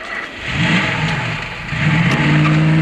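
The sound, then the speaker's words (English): The engine of a sedan driven off by Saxby revs as it pulls away, its low drone rising in pitch as it accelerates, dips briefly, then climbs again into a steady, loud hum. “Saxby drives off in the sedan.”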